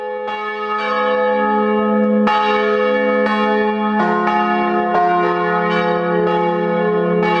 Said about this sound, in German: Glocken läuten ja jeden Abend 18 Uhr. Und als ich hier noch Pastorin war, habe ich manchmal ihn angerufen um 18 Uhr und habe den Hörer rausgehalten. Und er hat sich total gefreut, die Glocken zu hören.